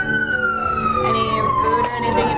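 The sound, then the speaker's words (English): A vehicle passes by, its loud, steady tonal whine, like a siren, sliding slowly downward in pitch as it goes, over a constant rumble of traffic with no talking. “And I'll wait until this car passes.”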